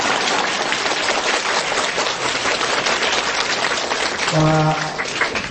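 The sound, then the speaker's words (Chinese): A crowd at a gathering in Melbourne applauds steadily and loudly to welcome a visiting speaker, a dense wash of clapping that runs for several seconds, with a brief tonal hum rising near the end. “台长把大家都当朋友一样，这么远的路啊来看望大家，所以啊大家鼓鼓掌，我觉得是很正常。”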